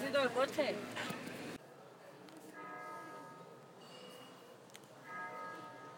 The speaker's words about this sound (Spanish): Lo que es ahí son las campanadas de las 8, creo. No, de las 9. Y nada, no he pillado el sonidito del principio de las campanas.